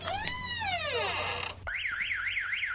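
A loud electronic alarm blares: a falling, wailing sweep gives way to a rapid, steady warbling tone rising and dipping over and over, with no voices.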